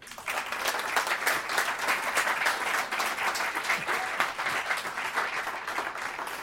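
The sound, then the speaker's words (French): An audience applauds a reader after a story reading, many hands clapping in a dense, even wash of sound that stays loud for the whole stretch without fading. “Je pense qu'on peut l'applaudir parce que c'est la première fois.”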